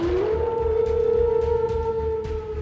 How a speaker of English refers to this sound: What the hell? Wolves.